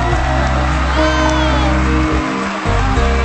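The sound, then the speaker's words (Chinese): A crowd applauds itself with loud, steady applause mixed with cheering and shouting voices, the noise continuous and dense for a few seconds with a brief dip near the end. “不错不错，为自己鼓掌好不好？”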